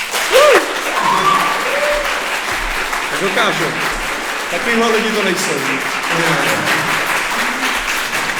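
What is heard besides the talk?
audience applause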